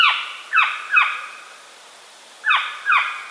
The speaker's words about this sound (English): When agitated or threatened, the saw-whet gives what ornithologists describe as a decidedly uncanny, high-pitched meow. Or a harsh and startlingly loud, staccato, high-pitched bark.